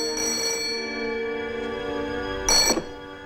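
telephone ringing

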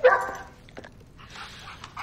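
dog barking

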